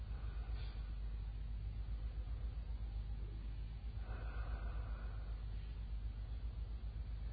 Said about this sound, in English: That's called breathing. Let me see how many of you can do it.